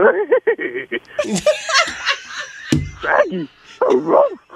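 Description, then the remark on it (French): A man's voice imitates the laugh of Scooby-Doo, the cartoon dog, a wheezy, snickering run of rapid chuckles and yips lasting several seconds, with other voices laughing along in the background. “Le rire de Scooby-Doo, le chien, là.”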